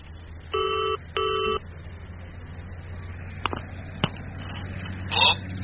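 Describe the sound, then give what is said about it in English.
A telephone rings in two short, evenly spaced bursts. Nobody picks up, and a few faint clicks and a brief chirp follow against a low background hum. “No answer, sir. Well, hang in there.”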